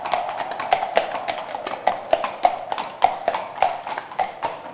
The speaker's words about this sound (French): En embuscade, dans le parc du château, une voiture attelée de chevaux noirs s'avance lentement à petit bruit.